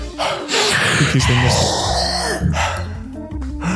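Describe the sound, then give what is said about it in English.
Loud, heavy breathing right up against the microphone, with long rasping breaths and a brief pause before another harsh exhale, unbroken by any talk. “He's doing a great job editing all of my heavy breathing, which hopefully we're not going to have this time.”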